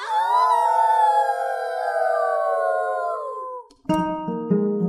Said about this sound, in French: Il a marché jusque dans la forêt, où il a entendu le loup.